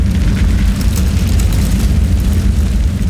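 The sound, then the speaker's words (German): A sudden explosion of a petrol tank that had become too hot, sounding like a cannon shot: a deep, heavy boom that rolls into a sustained low rumbling roar, with faint crackling bursts on top and no voices. “Die plötzliche Explosion des Benzintanks, der zu heiß geworden war, klang wie ein Kanonenschuss und erhellte einen Augenblick lang die ganze Szene.”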